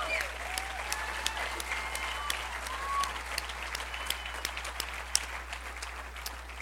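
A crowd applauds steadily for several seconds, a dense wash of clapping with a few sharp claps standing out and some whistles and cheers rising over it. No one speaks.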